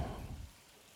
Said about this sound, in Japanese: 今から私たちみんなで君のお体洗ってあげるからね。もみくちゃにされる感覚とお湯と泡の音、たっくさん楽しもうね。